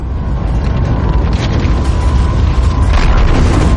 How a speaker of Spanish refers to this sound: Cuando el gas de la estrella más grande caiga sobre la superficie de la enana blanca, provocará explosiones nucleares.